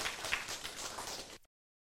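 An audience applauds in welcome, a dense, steady wash of many hands clapping together for about a second and a half before cutting off abruptly into silence.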